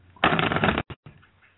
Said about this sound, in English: So I'm shuffling the cards, and you tell me when to stop shuffling. Just go ahead and say stop.